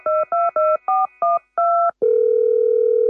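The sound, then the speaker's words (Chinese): Six short two-tone keypad beeps in quick succession as a telephone is dialed to make a complaint, each tone distinct and clear, followed by a steady continuous dial tone humming loudly to the end, with no voices. “如果有啲嘢你唔敢同人讲，打电话嚟公开同我哋讲，快打电话嚟告佢。”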